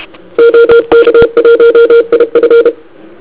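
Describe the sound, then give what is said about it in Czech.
Morse code keyed externally from a computer, heard on an iCom 7600 monitoring receiver: a steady mid-pitched tone switching on and off in quick dots and dashes for about two seconds, loud and clean over a faint hiss, with no voices. “Takže jednoduchý test na kontrolním přijímači, což je teď iCom 7600, si poslechneme, co to dělá, když se klíčuje z počítače, to má externě.”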